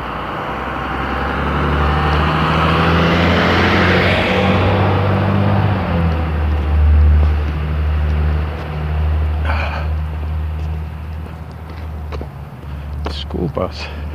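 school bus driving past

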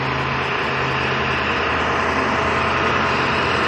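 truck engine approaching

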